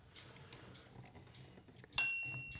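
Soft mechanical clicking as a typewriter's margins are adjusted, then a single bright, high typewriter margin bell ding that rings clearly and slowly fades out over the last half second.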